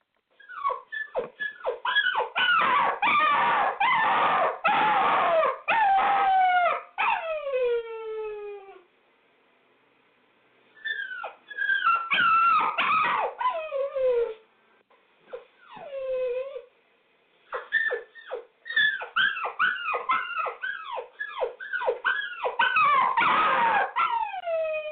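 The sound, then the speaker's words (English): A wolf whimpers and yelps in high, wavering cries, breaking into drawn-out howl-like wails, loud, in several urgent bursts separated by brief pauses, with no talking. “That's a wolf saying no mas. That's a wolf begging for mercy.”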